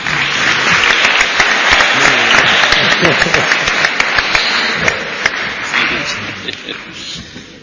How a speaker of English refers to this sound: Please assist us once more in giving a final round of applause for our speakers, moderator, and all of those who made tonight possible.